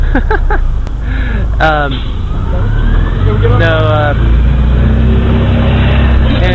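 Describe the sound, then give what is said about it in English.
A bus rumbles past with a loud, steady low engine drone that fills the whole clip, while people talk over the traffic noise. “here's a bus. We could just get on the bus.”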